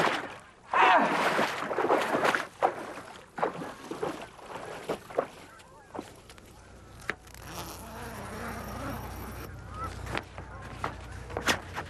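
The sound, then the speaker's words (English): Ducks call in scattered bursts of quacking, loudest near the start, over a steady outdoor buzz of insects, heard from a hidden duck blind tent among bushes, with no one speaking. “The ducks don't even know we're here.”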